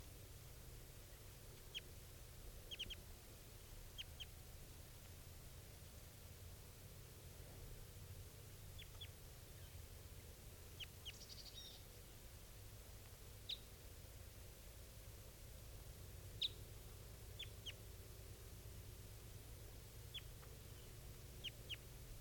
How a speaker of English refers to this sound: And this is the other female. It's a female too. Both of those birds are calling that.